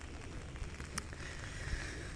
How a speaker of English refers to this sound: it's raining. I don't know if you can hear it or not.